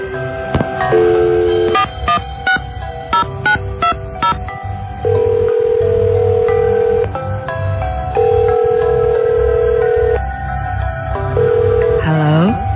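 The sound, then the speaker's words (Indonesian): A phone number is dialed from an office in the evening with a quick run of keypad beeps as a teacher calls a pupil's mother, then a steady ringback tone sounds in long repeated pulses with pauses between, clear over a low background hum. “aku pun mengambil telepon dan mencoba menghubungi ibunya Kinanti”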